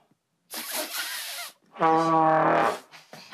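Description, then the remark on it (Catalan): A beginner blows a trombone: first a breathy, airy rush with no clear pitch, then a loud, buzzy low note held for nearly a second before cutting off. “Bueno, així sona el trombó. Com un pet d'elefant.”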